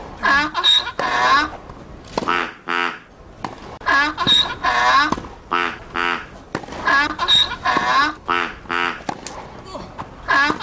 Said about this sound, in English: That's not the chicken. What's that? Got a duck.